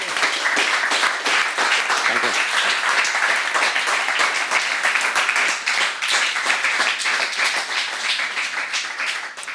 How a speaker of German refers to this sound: Einen großen Applaus für